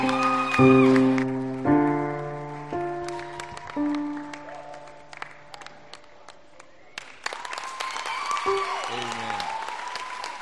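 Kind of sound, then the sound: crowd, audience applauding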